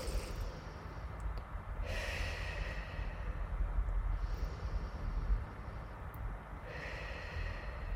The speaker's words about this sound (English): All right, we're at the Columbia River. I want you to take some deep breaths, breathing in through your nose and out through your mouth. Let's take three of those again.